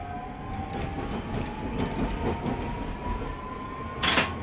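A train rumbles steadily along the rails through a continuing run of curves, swaying left and right, with a low continuous roar, faint rhythmic clacking of wheels and a thin high squeal running underneath, ending in a brief burst of hissing noise.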